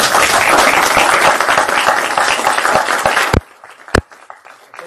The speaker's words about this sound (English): That's what we like to see, right? So how about a round of applause for them?